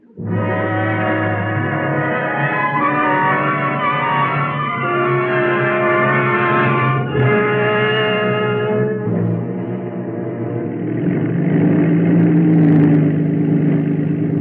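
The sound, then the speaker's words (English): The 50-horsepower engine of Harriet Quimby's small, creaky monoplane, flying into low fog over the English Channel, putters and drones steadily with a buzzy, harmonic tone, its pitch wavering slightly before settling into a rougher, grainier hum for the last few seconds. “And into the fog that hung low that morning over the English Channel, Harriet Quimby guided her little creaky monoplane. She was not alone. Fear rode beside her as the 50-horsepower engine puttered through the enveloping mist.”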